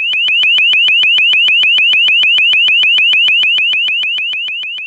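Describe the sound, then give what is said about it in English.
A sound cannon's ear-splitting alarm tone: a loud, shrill, high-pitched warble pulsing rapidly, about eight bursts a second, steady throughout and easing slightly at the end, with no voices. “The ear-splitting noise forces protesters to disperse. Sound cannons literally silence dissenting voices.”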